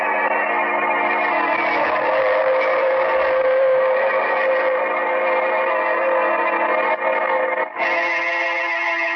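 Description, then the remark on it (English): A subway train roars in at the subway platform at 14 with a loud, sustained metallic screech and hum, holding steady for several seconds with a brief break near the end. No one speaks. “I was standing on the subway platform at 14”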